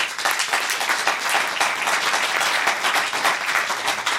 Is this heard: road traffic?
no